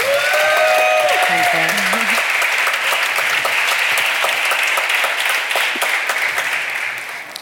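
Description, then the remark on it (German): Sustained audience applause welcoming guests Cora E. and Oji Lu at a German rap talk event, a dense wash of many hands clapping that stays loud for several seconds before tapering slightly at the end; a few brief tonal voice sounds rise over it at the start. “Einmal Applaus, bitte.”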